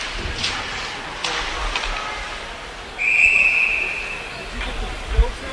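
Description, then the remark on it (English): A single shrill referee's whistle blast, lasting under a second, cuts through the steady murmur and rumble of the crowd at a college ice hockey game between Middlebury and Conn College at the Chip Kenyon 85 Arena, in the second period. “And we have a whistle here.”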